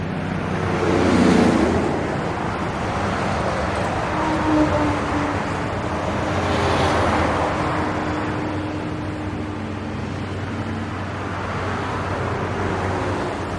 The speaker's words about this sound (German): Von Ferne her rauscht die A4, fast wie der Ozean.